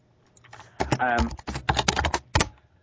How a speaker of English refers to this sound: Typing away there.